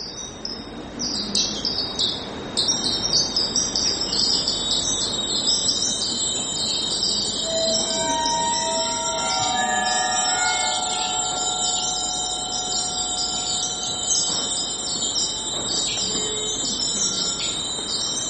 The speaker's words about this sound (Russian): искали и вспомнили, что нам подарили, когда мы были в России, нам подарили всем хрустальные колокольчики из гусхрустального. И мы достали эти колокольчики, и вот волна хрусталя звучащего очень интересно, очень точно передает ощущение цветения сада.